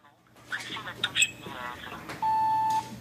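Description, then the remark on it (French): A few short electronic chirps, then a steady, clear beep held for about half a second, coming from a smartphone speaker during a functional audio test in a phone-testing workshop, over a faint background hum. “D'abord un test audio.”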